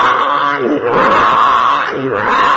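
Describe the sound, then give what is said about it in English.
A person imitates a donkey's screech: a loud, harsh, strained vocal bray that rises and falls in two long surges, with no other sounds around it. “You definitely have no ass-like inclinations. They just screech like, it's horrible.”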